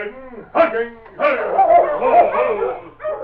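Sergeant Preston's sled dog team barks and yips excitedly, their overlapping calls loud, rising in bursts with a few whining, whimpering notes mixed in.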